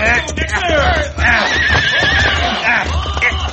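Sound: horse neighing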